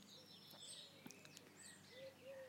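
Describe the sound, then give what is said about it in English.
Several birds chirp and call outdoors on a still, sunless day, thin high tweets overlapping with a lower, sustained whistling note near the end, against a quiet background. “That's the first one.”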